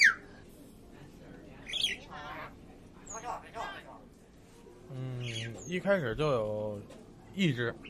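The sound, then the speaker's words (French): On a sunny day in a neighbourhood of alleys and low houses, birds chirp in scattered bursts, bright short tweets mixed with longer, lower warbling calls, rising and falling in loudness across the few seconds with quiet gaps between. “il fait beau aujourd'hui, donc les oiseaux sont très joyeux.”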